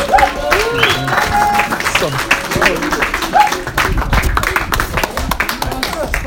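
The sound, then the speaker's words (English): A church audience in Bolton applauds steadily as a preacher comes to the stage, a dense, loud patter of many hands clapping, with scattered whoops and cheering voices rising over it. “So guys, give him a round of applause to come to the stage.”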